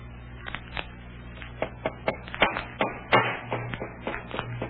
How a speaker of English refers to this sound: Well, they're hammering that crate tight shut.